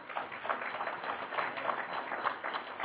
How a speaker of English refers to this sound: Is that good stuff or what? How about give them a round of applause?